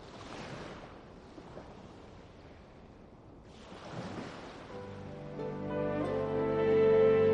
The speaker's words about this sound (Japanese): さざ波が、二人のつま先に届きそうになっては、また引いていく。キラキラとさんざめく春の海が、私たちの目の前に、ただ穏やかに、広がっている。